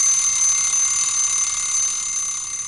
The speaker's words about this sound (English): And that's what the alarm sounds like. It basically tells you when you hit that time.